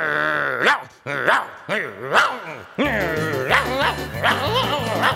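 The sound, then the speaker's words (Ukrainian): A shaggy dog guarding a yard barks in a steady series of sharp, fairly loud woofs, roughly four in the first few seconds, then keeps barking over a backdrop of steady music with low bass notes. “Ну, знову клятий пес кудлатий не дає спокійно спати.”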